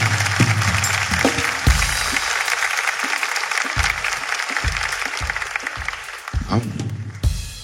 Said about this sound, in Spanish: Un fuerte aplauso